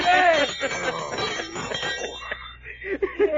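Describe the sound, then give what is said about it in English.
A dinner gong rings out with a bright, sustained metallic tone that wavers and gradually fades, followed by a few lighter clinks over a busy, noisy background. “Well, this here, sir, is a dinner gong.”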